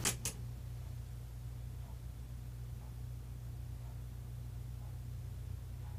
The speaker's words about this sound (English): As you've probably noticed, we can now hear the wall clock.